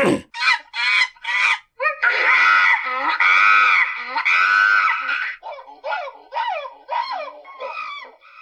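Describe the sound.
A person does loud monkey impressions: a quick run of short hoots, then a long harsh screech, then a string of rising and falling whooping calls in a steady rhythm.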